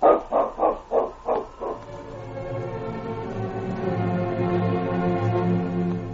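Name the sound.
dog barking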